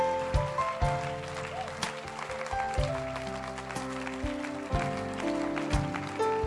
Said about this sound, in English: Come on, let your hand clap it proper. Yes. Let your hand clap it proper tonight.